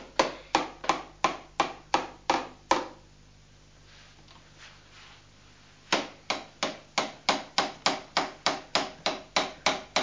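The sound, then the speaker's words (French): Steady hammer blows, struck to repair a door, come in a quick, even rhythm, each a sharp loud knock. A burst of about nine stops for a few seconds, then a longer run of blows resumes. No voices. “C'est pour réparer la porte que tu tapes là au-dessus.”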